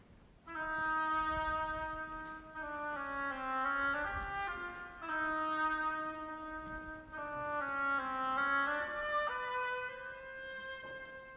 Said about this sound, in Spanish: Pedro y el Lobo es un cuento sinfónico compuesto por Sergei Prokofiev. El pájaro por la flauta. El pato por el oboe.